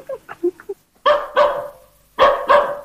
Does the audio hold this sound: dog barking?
yes